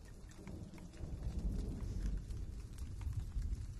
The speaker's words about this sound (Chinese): 怎么还下雨了？这个下雨还挺有意思的。